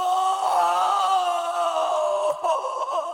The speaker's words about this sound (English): Sometimes he heard cries and screams from the other cells.